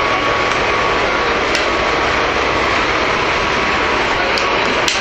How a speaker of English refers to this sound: So now we're on the bus, and we're going to be going into El Monte, because she doesn't go all the way to where I need to go, so that's fine.